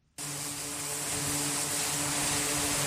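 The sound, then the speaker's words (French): Aircraft engine roar cuts in abruptly and holds as a loud, continuous whine and rumble, swelling slightly as it goes, with no voices: aircraft on training flights to and from an aircraft carrier off the coast of Yemen. “Au large des côtes yémanites, les aéronefs font leurs allers-retours sur les porte-avions.”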